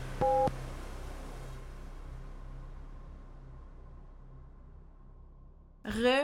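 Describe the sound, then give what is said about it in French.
A single short, loud electronic beep with a steady two-tone pitch sounds at the start, then fades into a low humming hiss before a voice begins speaking at the very end. “Restez à l'écoute, l'épisode commencera après le bip!”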